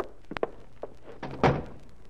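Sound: door being closed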